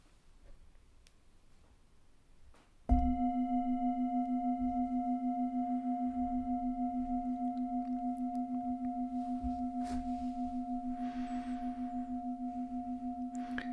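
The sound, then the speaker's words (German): A single gong strike at about three seconds, sounding a deep, steady tone that rings on with a slow pulsing shimmer for over ten seconds, barely fading. “Wenn du nach dem Gong noch eine kleine Praxisanwendung hören möchtest, dann kannst du noch kurz dabei bleiben.”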